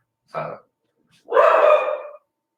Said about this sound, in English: sorry it. if my dog is barking.